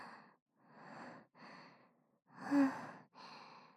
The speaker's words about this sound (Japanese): はあ、いや、さすがに今のはだいぶ緊張したよ。息切れちゃった。うるさかったらごめんね。